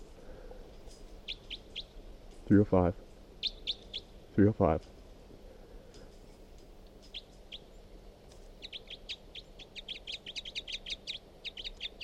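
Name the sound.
bird calls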